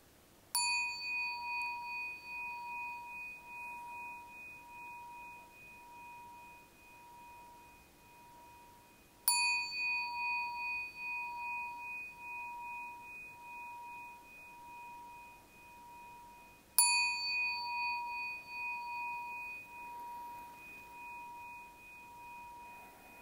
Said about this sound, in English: So now we're getting close to the end of the meditation. to ring the gong 3 times. After the sound of the 3rd gong, please come out of meditation.